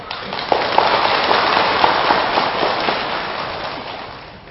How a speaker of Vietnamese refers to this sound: Nếu như các quý Phật tử thấy rằng là việc làm đó là có thể nằm trong tầm tay của mình đó, dâng cao tràng pháo tay thật lớn.